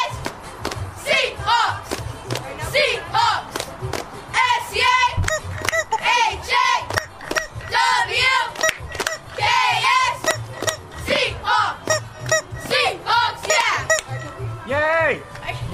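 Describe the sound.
A crowd of voices shouts and cheers continuously, with overlapping high-pitched whoops and yells, loud, alongside occasional dull thumps.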